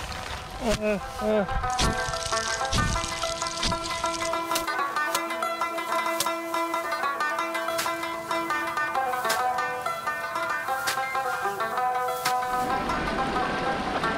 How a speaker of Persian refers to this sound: دوستا اخیر رسیدیم به دریای کنر، جایی که از صدایش یک موسیقی خیلی زیبا می نوازه که ذهن آرامش می ده. اینمی صدایی چی که مست مثل یک موسیقی واری است نه؟